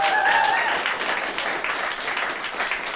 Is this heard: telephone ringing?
no